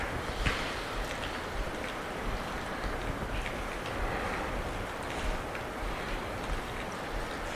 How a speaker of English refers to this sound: And then I go back to the sound I feel around me, that with the raindrops. So I welcome that as part of my quality of environment. That supports me.